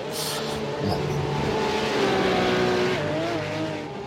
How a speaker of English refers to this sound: And 140s these cars freight train down that straightaway, but they also do everything else very well until you overdo it, and they don't do it well.